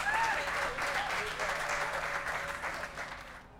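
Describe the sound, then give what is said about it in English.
A crowd applauds the bands performing at School of Rock's annual Rock the Lot show at its Carmel location. The applause is a steady, dense wash of clapping that holds strong for a few seconds before tapering off at the end, with faint whistle-like tones mixed into the noise. “If you would give them a big round of applause.”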